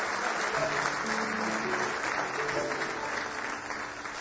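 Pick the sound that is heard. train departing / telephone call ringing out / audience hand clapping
audience hand clapping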